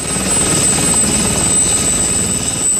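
Three police helicopters take off from Zagreb, Croatia, carrying Croat special forces; rotors thud in a fast steady chop beneath a high turbine whine, loud and continuous for the whole stretch with no voices.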